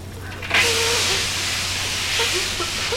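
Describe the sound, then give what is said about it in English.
After a low hum, a corroded pipe along a ceiling suddenly bursts with a loud, sustained rush of hissing, gushing water that keeps pouring steadily down, flooding a hallway, with a few faint squeaks and creaks underneath. “Before I took my next step, a corroded pipe along the ceiling burst. water, tears cascaded down, flooding the hallway.”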